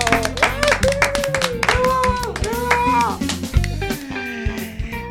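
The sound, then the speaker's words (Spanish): A burst of lively applause from a crowd, dense rapid clapping throughout with voices whooping and cheering over it, sustained for several seconds at a fairly loud level, opening the Cuac FM radio programme Sopas con Onda. “¡Fuerte el aplauso!”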